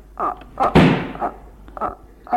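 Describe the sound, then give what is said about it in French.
A door is kicked shut with one heavy, booming thud that rings out briefly, surrounded by short bursts of voices speaking before and after the impact. “D'un coup de pied, il ferme la porte.”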